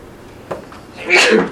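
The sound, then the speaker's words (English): A single sharp sneeze bursts out near the end, loud and breathy after a short stretch of quiet room tone with a faint click. “God bless you.”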